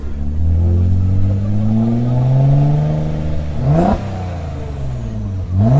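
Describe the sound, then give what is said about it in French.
A loud car engine revs steadily higher, then hits the rev limiter with a burst of cracking pops as excess fuel explodes in the exhaust, before the revs drop and climb again. No voices. “Là, il est arrivé au rupteur, donc bah, forcément, gavage par l'essence, les uns brûlés, et t'as explosion dans l'échappement.”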